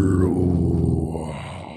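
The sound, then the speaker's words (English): A single sustained, guttural death metal growl from a human voice, low and rough with a buzzing harmonic rasp, loud at first and fading slightly over nearly two seconds. “But yeah, no, to him, it's like, I'm trying to do my best death metal growl.”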